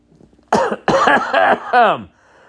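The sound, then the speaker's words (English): A loud coughing fit: four harsh, raspy coughs in quick succession, the last one drawn out and voiced, then quiet. “And with that, I think we're going to move on to the content here before I start having a fucking coughing fit.”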